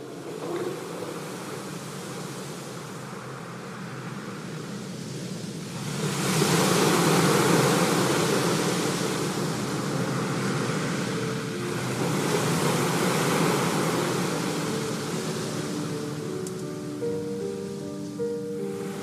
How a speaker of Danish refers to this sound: Klipperne skrånede ned mod havet, som sendte skumsprøjt langt ind over land.